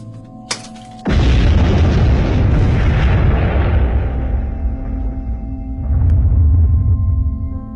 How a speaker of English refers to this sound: On December 6, 1907, the most deadly mine disaster in U.S. history occurred when an explosion killed 361 men and boys in a West Virginian coal mine owned by the Fairmont Corporation.